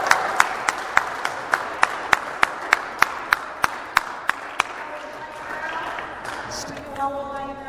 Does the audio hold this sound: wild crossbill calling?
no